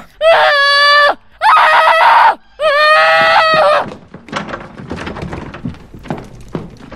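Shrill, sustained screams in three long bursts with brief gaps, loud, like children yelling at each other, followed by a few seconds of softer rustling and scattered background noise.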